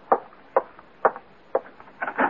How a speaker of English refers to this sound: And then, late that afternoon, there's a knock on your door.